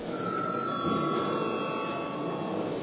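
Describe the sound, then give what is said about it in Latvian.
A steady electric voting bell rings continuously for about three seconds in the Latvian Saeima (parliament), called before the deputies vote, a sustained bright metallic tone over a hissy, rattling buzz, with no talking. “Lūdzu zvanu.”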